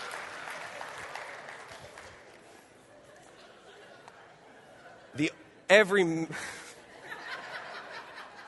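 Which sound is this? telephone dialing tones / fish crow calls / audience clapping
audience clapping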